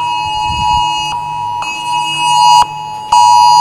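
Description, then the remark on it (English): Emergency alert alarm tones from many phones going off at once blare in a loud, steady, piercing drone with harsh overtones, broken by a few brief clicks and dropouts, with no talking over them. “Everybody's phone going off. That's obviously an unfriendly alert.”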